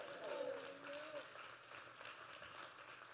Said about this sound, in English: Clap your hands and say hallelujah.